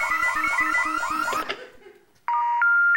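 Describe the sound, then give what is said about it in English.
A loud electronic home security alarm, triggered by someone stepping on a pressure pad, wails in rapid repeated warbling sweeps, cuts off and fades, then after a brief pause a steady shrill tone sounds, stepping up in pitch. “And you're standing on a pressure pad which is connected to this alarm.”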